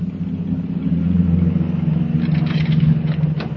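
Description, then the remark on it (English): A large bus's engine rumbles low and steady as it pulls up, its front sign reading Brundage Park and the fairgrounds, with a few brief hissing bursts toward the end and no one speaking. “Here comes the bus now.”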